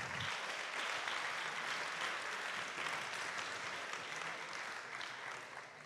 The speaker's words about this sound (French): que j'accueille tout de suite sous vos intenses applaudissements qu'on va aborder ces thèmes.